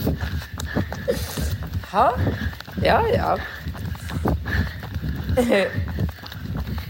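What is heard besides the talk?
running footsteps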